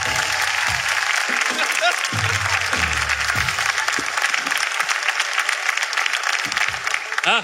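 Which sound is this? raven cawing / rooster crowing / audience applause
audience applause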